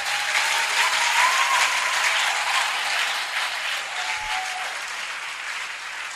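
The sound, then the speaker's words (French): An audience bursts into sustained, loud applause for the glory of God, with scattered cheers and whistles, a dense steady wash of clapping that holds for several seconds without easing. “Donne-moi encore de bonnes acclamations pour la gloire de Dieu.”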